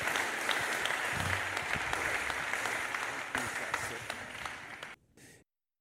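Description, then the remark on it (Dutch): Sustained applause from an audience for a pastor, a dense wash of many hands clapping at steady volume for about five seconds before it tapers and cuts off abruptly. “Geef een applaus aan Pastor Castillon.”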